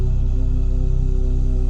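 Two steady, sustained hummed tones an octave apart sound together, a low one and a higher one, blending into a continuous hum that holds evenly without pause or change in loudness.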